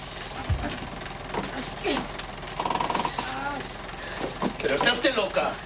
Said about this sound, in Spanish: El autobús para.